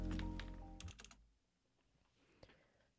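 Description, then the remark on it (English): Clicky typing with fingernails on a computer keyboard during a broadcast on CITR 101.9 FM in Vancouver: a quick flurry of keystrokes at first, then a few scattered, quieter taps. Soft, with a faint tonal hum fading out early on. “I just realized my mic was on this whole time, so you could probably hear me typing.”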